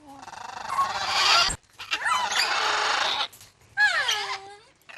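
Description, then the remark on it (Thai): Parrots of various species, including macaws, squawk and screech at a Tibetan Buddhist temple in Maryland, about 50 km from Washington, in loud, harsh bursts: three raucous calls separated by brief pauses, with shrill rising and falling whistles in the last one. “วัดคุณซังเปลยุนโชลิงในเป็นวัดทิเบตในรัฐแมริแลนด์ที่อยู่ห่างจากกรุงวอชิงตันประมาณ50กิโลเมตรนะคะแต่บรรยากาศที่ควรจะเงียบสงบของวัดกลับเต็มไปด้วยเสียงร้องของนกแก้วหลากหลายสายพันธุ์”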